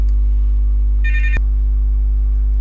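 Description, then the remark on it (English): A brief electronic telephone ring from an incoming phone call, a single bright trilling burst lasting under half a second, cut off by a sharp click, over a steady low electrical hum with no talking. “Okay, I'm resuming recording after an interruption for a phone call.”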